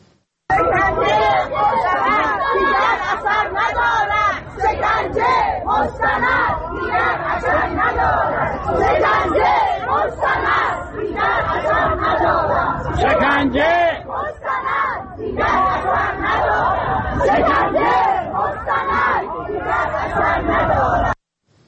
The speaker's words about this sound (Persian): در اینجا از تجمع گروهی از بازنشستگان در دوم بهمن ما فیلمی رو میبینیم که به وضعیت معیشتی و اقتصادیشون معترض بودن و جلوی وزارت کار با شعار شکنجه مستند دیگر اثر ندارد به پخش اعترافات تلویزیونی فعالان سیاسی و مدنی اعتراض کردن.